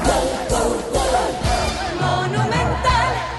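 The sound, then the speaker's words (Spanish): A stadium crowd roars and shouts in celebration after River's second goal against San Lorenzo, a header by Dionisio Pires, a loud, sustained wall of many voices with rising and falling cheers and chant-like cries throughout. “Se escucha el grito del Quelito.”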